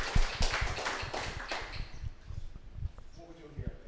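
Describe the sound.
An audience bursts into a dense round of applause, loud at first and thinning out over a few seconds, with thumping beats and voices mixed into the clapping.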